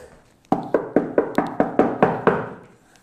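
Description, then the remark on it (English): A quick run of about eight firm knocks on a door, evenly spaced, each one sharp and resonant, ringing out alone with no one talking. “Knocks on your door, you open the door.”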